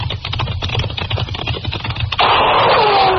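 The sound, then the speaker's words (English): A rapid, irregular clatter of sharp gunshot cracks, fired by a cook at two men, over a low rumbling pulse, then a loud sustained burst of noise with a falling whine, like a ricochet. “Hey, he's shooting at us.”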